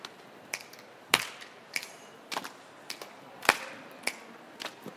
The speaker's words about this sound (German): Erste Übung ist einmal auf den Schenkel patschen, schnipsen, klatschen, wieder schnipsen. Geht so.